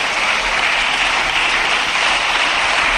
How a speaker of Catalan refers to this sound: Feijóo, a part de rebre els aplaudiments dels seus, també rep els comentaris de la bancada socialista, evidentment.